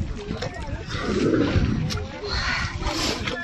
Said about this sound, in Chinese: 偶尔的可以听到它几声呼吸那种声音嘛，表明它还是活着的。 刚刚的那个声音很重的那一个声音就是我们鲸鱼的它的一个呼吸声。